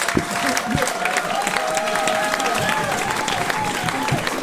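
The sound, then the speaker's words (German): Sustained audience applause at a concert, a dense steady wash of many hands clapping at even loudness throughout, with a faint tone and some murmuring voices mixed underneath. “Aber eigentlich gilt ja der Applaus euch, weil ihr habt ja Eintritt bezahlt.”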